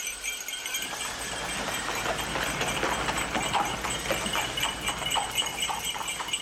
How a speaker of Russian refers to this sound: На дороге сани дожидались их. Лошади, прозябнув, не стояли на месте. Кучер Владимира расхаживал перед оглоблями, удерживая ретивых. Он помог барышне и ее девушке усесться и уложил узлы и шкатулку. Взял вожжи, и лошади полетели.